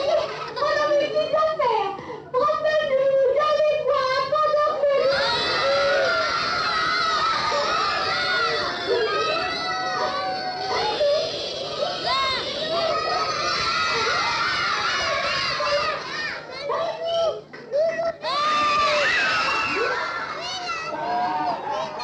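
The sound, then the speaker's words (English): A crowd of children watching a puppet show shrieks and laughs loudly and continuously, high excited voices overlapping in waves of screaming, giggling and cheering, with no break in the noise. “I mean, those reactions, that mix of screaming and laughing and awe, I mean, to me, that whole sequence is almost a statement about a few things.”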